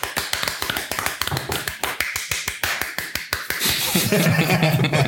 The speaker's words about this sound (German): Oh, dafür einen Applaus für uns selbst.